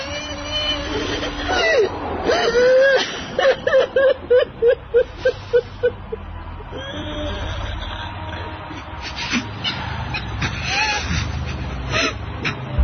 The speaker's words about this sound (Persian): گریه کن عزیزم، یه خورده گریه کن تا حالت بهتر بشه.